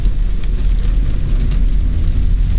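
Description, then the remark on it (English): Steady, dense rain drums on a car roof, a constant low rumble with scattered brighter taps, loud with no voices. “I mean, from the rain hitting the car.”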